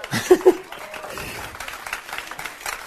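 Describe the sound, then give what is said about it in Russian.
An audience applauds with a dense, steady patter of clapping, a couple of sharper peaks near the start, and scattered laughter mixed into the crowd noise. “Все, хлопаем дальше.”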